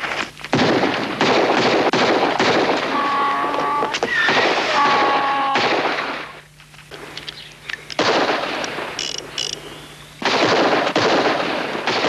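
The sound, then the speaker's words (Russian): A loud barrage of rapid gunshots with ringing, shattering plates of food mixed in, easing briefly into scattered pops and debris before the heavy firing bursts back in. No one speaks. “Вооружившись ложками, герои наклоняются над едой, как вдруг тарелки разлетаются от выстрелов.”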